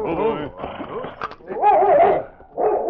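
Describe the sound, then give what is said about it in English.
A husky whines and whimpers as it sniffs at the door of a shack, its high, wavering cries broken by a few short barks, in several bursts separated by brief pauses. “The intelligent husky had gone sniffing to the door of the shack.”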